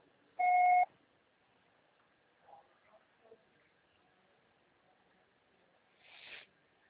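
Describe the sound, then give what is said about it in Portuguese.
A single short, steady electronic telephone ringing tone sounds once as a phone call goes unanswered, then near silence, with a few faint soft noises and a brief breathy hiss at the end. “Nada, chamou, chamou, chamou, chamou, ninguém atendeu.”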